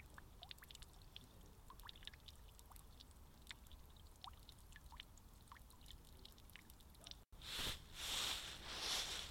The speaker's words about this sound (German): Doch eigentlich gibt es viel schönere Geräusche, wenn man durch den Wald läuft. Wie das Rauschen der Blätter, das Zwitschern der Vögel oder das Plätschern von einem Brunnen.